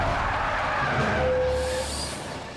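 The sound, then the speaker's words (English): A semi-truck carrying Randy and the kids brakes to a stop outside Kyle's house: a loud, rough rumble with a steady high brake squeal in the middle that fades as the noise settles. No one speaks. “Randy and the kids bounce violently as the truck slows to a stop outside Kyle's house.”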